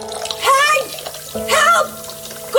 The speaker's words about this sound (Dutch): In de keuken. Heel de vloer staat onder water. Oh, wat moeten we nu doen? De keukenafvoer zit verstopt.